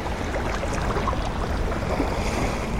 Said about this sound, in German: Und wenn ich hier draußen in der Natur bin, am Meer, so wie heute, wird mir das besonders deutlich.